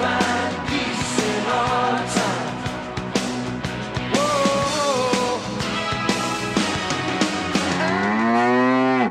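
Loud cows mooing over a busy, clattering background, with a drawn-out moo midway and another long, rising moo near the end, no talking.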